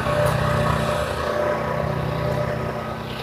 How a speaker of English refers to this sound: That horrible racket is the chemical tree treatment truck across the street.